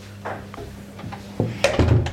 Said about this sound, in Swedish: Ska jag stänga dörren till klädkammaren här.